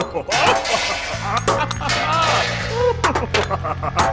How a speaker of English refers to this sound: And they're all just smashing with their goblets and dinnerware at this man in the middle.